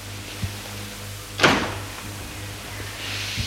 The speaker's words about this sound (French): La porte du salon s'ouvre.